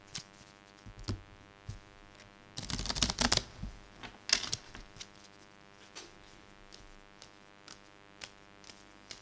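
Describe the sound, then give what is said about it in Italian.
Playing cards being handled during a game of rummy: scattered light snaps and flicks, with a dense flurry of rapid riffling near the middle and another short burst soon after, no voices. “Allora, peschi una carta.”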